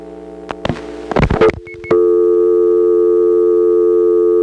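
A few clunks and rattles of a rotary dial telephone handset in Smyrna being picked up, then a loud, steady dial tone from the first selector hums on without timing out until the end.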